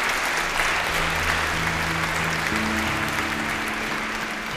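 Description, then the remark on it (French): An audience applauds the angels of God in a steady, dense wash of clapping that lasts throughout, with sustained low keyboard or organ notes holding underneath. “Applaudissez les anges de Dieu.”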